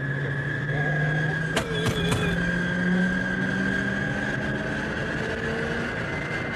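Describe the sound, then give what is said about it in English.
An American car engine idles steadily, a low droning hum with a constant whine above it, broken by a few sharp clanks near the middle. “People wonder why I don't buy American cars.”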